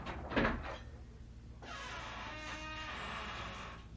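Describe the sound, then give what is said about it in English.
The seldom-opened heavy door of the House of Usher opens with a dull clunk, then a long, drawn-out creak groans steadily for several seconds, fairly loud, with no voices. “This door is seldom opened.”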